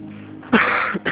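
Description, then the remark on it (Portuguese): A harsh, raspy cough bursts out, followed a moment later by the start of another, with no speech around it. “Meu pulmão tá fraquinho, eu tô tossindo, tô sentindo o pulmão aqui atrás.”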